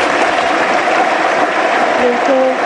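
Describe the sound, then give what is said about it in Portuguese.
Sustained applause at the first Gala do Desporto de Barcelos, held on a Sunday night in the Pavilhão Municipal de Barcelos, in tribute to João Trigueiros and Jorge Coutinho. A dense, steady wash of many hands claps at an even loudness throughout, with faint tonal hum underneath. “Por isso, que Deus o tenha e uma grande salva de palmas para eles.”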